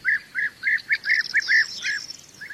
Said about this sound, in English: Overhead, while I worked, groups of bee eaters kept me company throughout the day, their endless chattering and bickering adding to their charm.